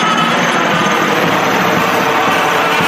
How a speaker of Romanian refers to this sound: Ne salută elicopterul IAR-330 în ASOPA.